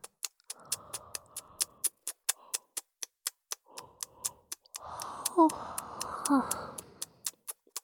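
A woman lets out a drawn-out, breathy yawn after a few softer sighing breaths, close and clear, while a steady, rapid ticking clicks throughout in the background.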